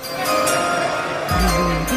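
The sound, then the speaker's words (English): The NFL draft pick announcement chime rings out clearly on its own, bright sustained bell-like tones with a deeper tone joining partway through, loud with no talking. “So let's go ahead and let's just set the table with the greatest chime of all time.”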